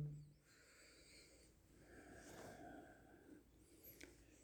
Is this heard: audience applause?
no